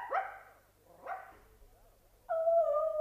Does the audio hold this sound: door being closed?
no